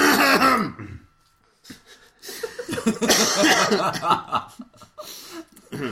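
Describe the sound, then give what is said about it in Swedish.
Several people clear their throats, a cluster of rough, scraping rasps and short vocal bursts, mixed with a few soft chuckles and brief quiet gaps. “nu har vi harklat oss”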